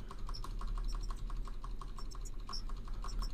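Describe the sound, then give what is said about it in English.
Rapid, steady clicking of computer keyboard keys being pressed while starting a computer game, a quick run of light taps over a low background hum, with no voices. “Start. Press keys.”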